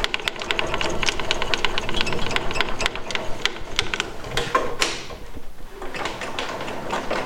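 A circular saw with a blade, worked by turning two cranks, cuts a wooden blank: a loud, steady mechanical whirring dense with rapid clattering ticks, briefly easing off partway through before resuming. No one speaks.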